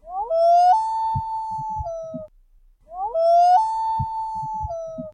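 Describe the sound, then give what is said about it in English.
A common loon calls twice: each loud, mournful wail slides upward, holds a steady, eerie mid-high tone for nearly two seconds, then drops off, with a short pause between calls. “So this is a loon, right? The loon.”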